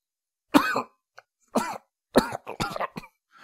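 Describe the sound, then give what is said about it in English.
Wet, rasping coughing from a wounded man coughing up blood: two separate loud coughs about a second apart, then a ragged cluster of quicker, gurgling coughs before it trails off. “Coughing up blood, Broadsword looked up at Chrysalis”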